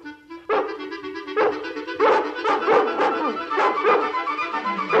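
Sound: dogs barking and yipping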